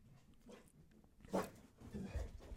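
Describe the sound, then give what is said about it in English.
Two dogs, aged 2.5 and 4, bark in the background: a sharp loud bark near the middle followed by a few softer, rougher yelps and whimpers. “But they're barking in the background, and I'm not sure if you're able to catch that.”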